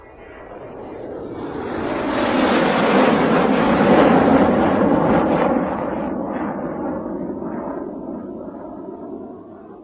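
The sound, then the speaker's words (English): An airplane roars overhead, its broad rushing engine noise swelling to a loud peak in the first few seconds, then holding steady and slowly easing off as it passes. “How do you go to Canada? I go by plane.”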